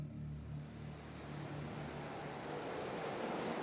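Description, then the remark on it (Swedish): A steady, rushing roar of stormy Atlantic Ocean waves whipped up sky-high by a storm, swelling slightly louder toward the end, with a low droning rumble underneath at first. No voices are heard. “En storm piskar upp de skyhöga vågorna på Atlanten.”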